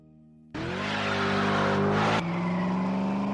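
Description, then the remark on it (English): An American V8 engine idles low, then roars loudly into a sustained, throaty rev with a deep rumble, shifting pitch briefly near the end. Powerful, no voices. “That's the unmistakable sound of American V8 muscle that revs the hearts of the young and old alike.”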